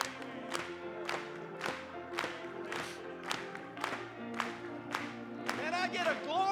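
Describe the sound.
An audience claps together in a steady, even beat over sustained music during a Spanish-language church worship song, with a raised voice cheering near the end.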